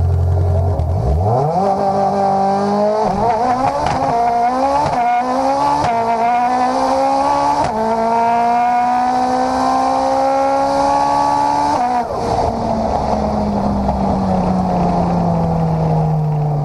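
The engine of a second-generation, front-wheel-drive Golf car revs hard, pitch climbing and dropping through several quick gear changes over about twelve seconds, with tires squealing, before easing into a lower, steady drone. No voices.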